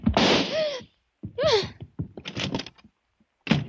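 A door slams shut after a burst of rattling and a couple of squealing, sliding scrapes, with a last sharp bang at the end. No one speaks.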